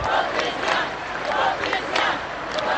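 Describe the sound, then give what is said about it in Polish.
A large crowd of young people cheers and shouts in response to the Pope's homily, a steady, dense roar with rhythmic swells of massed voices rising every half second or so, no single speaker standing out. “Słowa papieskiej homilii spotykały się z żywym odzewem młodzieży.”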